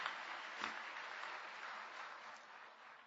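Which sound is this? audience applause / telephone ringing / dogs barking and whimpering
audience applause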